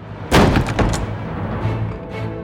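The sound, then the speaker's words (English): A door slams open with a loud, sharp bang, followed moments later by a second heavier thud, then a low rumbling tail that lingers without any voices. “Siegmund and Sieglinda jumped apart as the door slammed open, scrambling to pull on their clothes.”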